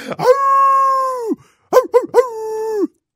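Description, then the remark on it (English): A wolf howls twice, loud: a long sustained wail, a brief pause with a few short yipping rises, then another drawn-out howl that tapers off. “Yeah, in honor of the wolf, why don't you give us a little howl?”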